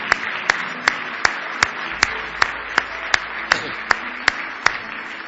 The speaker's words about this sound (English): Give the Lord another big hand clap of praise if you love him.